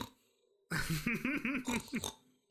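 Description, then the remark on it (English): A voice imitates the snoring of someone who passed out while watching World Cup coverage, like an old man, with a loud burst of rough, rattling snorts and grunts lasting about a second and a half, then falls silent. “And you just started snoring like an old man, and you're like...”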